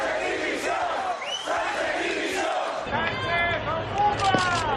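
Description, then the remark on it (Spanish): A large crowd roars and jeers loudly, a dense wash of many voices with shouts rising and falling, continuous throughout and sounding like booing from a big outdoor gathering. “Bueno, esto, hay quien hoy se rasga las vestiduras y decir, hombre, por favor, no debería haber abucheos.”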